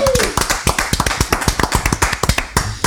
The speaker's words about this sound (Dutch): Maar voor dat tekenen en voor die moed die jij hebt betoond en ook voor jouw afweging wel of niet en uiteindelijk toch kiezen voor Go Ahead Eagles, geven wij jou nu hier met de aanwezigen in de studio een daverend applaus,